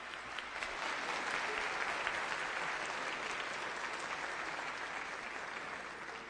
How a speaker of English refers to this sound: Let's give them a big applause.